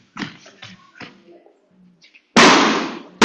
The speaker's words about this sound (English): You can pop two balloons.